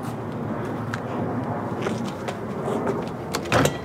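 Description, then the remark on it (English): A store door on a fake street is jiggled and pushed open, with faint clicks and rattles over a steady background hum, ending in a louder clunk as it gives way. “Let's just try the store doors and see if one of those...”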